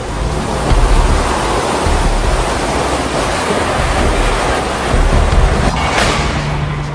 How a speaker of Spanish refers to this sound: 23 de marzo del 2015. La bajada de Libertad. Deben ser las 4 de la tarde, ¿no? 4 de la tarde. Estamos ahorita en un Waiko terrible, con una lluvia terrible, Dios mío. Esperemos que esto se acabe de una vez.